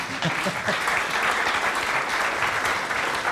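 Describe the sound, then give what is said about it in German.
Steady applause from a crowd, a dense wash of many hands clapping at a constant, fairly loud level for the whole stretch, with no pauses or rhythm breaks. “Heutiges Deutschland finde ich eine ziemlich gute Antwort und fast überall, also auch ein Applaus wert gewesen auf jeden Fall.”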